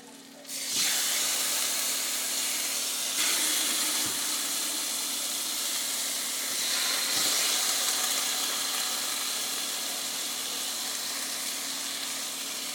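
Chicken is added to a hot sauté pan of sautéed onions and bursts into a loud, steady sizzle, a bright crackling hiss that swells a few times and keeps going with no talking.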